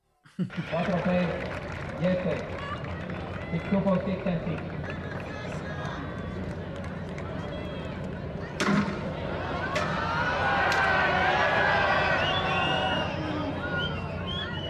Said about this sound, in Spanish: Le vamos a escuchar nada más los golpazos que le da a la silla y que vaya, por suerte y porque movió sus pies, no se encontró con el tobillo del juez.